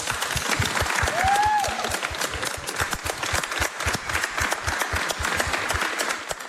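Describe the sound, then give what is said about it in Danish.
An audience claps steadily throughout, a dense patter of many hands at a fairly loud, even level, with a brief rising whistle-like tone cutting through early on, at an event hosted by Disneyland Paris. “Så klapper vi alle sammen lige, så vi får lidt god stemning, ikke?”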